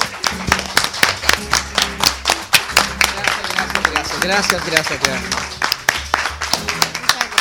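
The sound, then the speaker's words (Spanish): A crowd breaks into loud, sustained applause, many hands clapping in a dense, uneven patter, with a few voices calling out over it partway through. “Ahora sí, un aplauso gigantesco, pero de verdad.”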